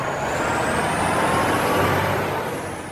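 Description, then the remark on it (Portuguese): A large free municipal school bus idles with a loud, steady engine rumble and a thin high whine, then an air-brake hiss as the sound eases slightly toward the end. No one speaks. “O ônibus busca e deixa ele e o irmão no caminho.”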